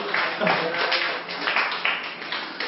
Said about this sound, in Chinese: 谢谢刚刚七位坏人的演出，非常精彩，给他们这一次的掌声，谢谢。